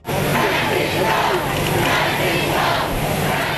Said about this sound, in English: The Holy Father was greeted by chanting, cheering crowds and Mr. Obama when he arrived Tuesday after 3 days in Cuba